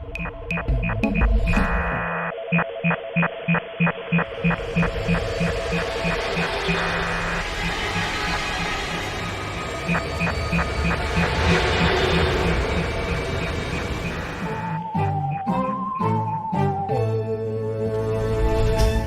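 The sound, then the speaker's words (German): An instrumental intro jingle for the show Alarmstufe X, about nineteen seconds, opening with a fast staccato pulsing beat over sustained tones, swelling into a dense wash, then ending with a run of stepped, changing chords. No one speaks. “Wir jingeln.”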